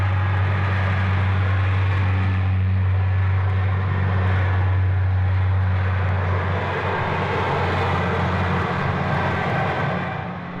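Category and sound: vehicle, airplanes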